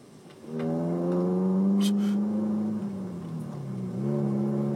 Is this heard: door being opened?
no